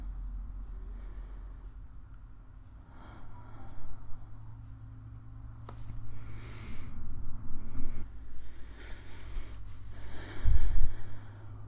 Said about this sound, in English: Just listen to me breathing.